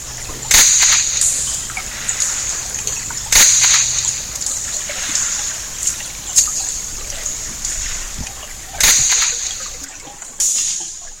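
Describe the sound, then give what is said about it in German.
Sharp, whip-like cracks from a zander hunting at midnight in summer, striking a smaller fish from behind underwater, about five loud snaps at irregular intervals over a faint watery hiss, with no voices. “Er schleicht sich von hinten an und zack, mit einem Knall vor einer Peitsche betäubt er sein Opfer.”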